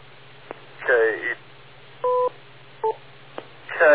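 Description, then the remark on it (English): A radio transmission with a short steady two-tone beep, the signal to wait for before talking, and a second brief beep, between garbled, band-limited voice bursts, clicks and a constant low hum underneath. “Wait for the beep.”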